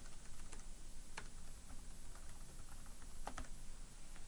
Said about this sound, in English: Okay, my typing is pretty off. Let's try that again.